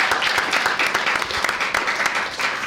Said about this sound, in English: Branded it. Give him a round of applause, everyone, please.